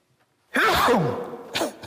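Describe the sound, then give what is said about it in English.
A single loud sneeze, set off while the person was messing with his wife, bursts out of silence with a sharp noisy onset and a voiced, falling tail, followed by a quick sniff or breath. “See, I'm messing with my wife and it made me sneeze.”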